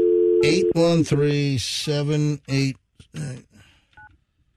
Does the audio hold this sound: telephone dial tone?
yes